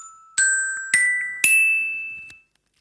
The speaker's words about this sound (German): ein ganz tolles Glockenspiel aus dem Jahre 1983. Steht noch mein Name drauf aus meiner Grundschulzeit. Ein Glockenspiel von Sonor und ich mache das mal hier an dem großen Mikrofon. Vor jedem Glückskeks spielen wir eine Glückskeks-Erkennungsmelodie.